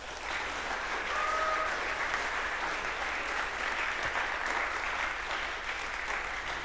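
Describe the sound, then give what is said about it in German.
Steady audience applause for the VOG team that recorded the talks, a dense wash of many hands clapping at an even loudness throughout, with no voices standing out above it. “Bitte darüber einen Applaus zum VOG.”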